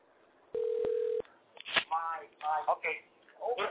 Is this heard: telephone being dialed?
yes